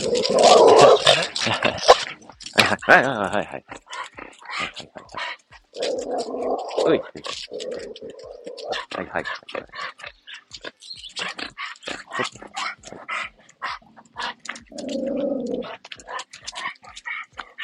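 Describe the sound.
A dog growls and barks excitedly in several loud bursts at another dog it has just met, with snarling and some whimpering between them, while a person speaks intermittently.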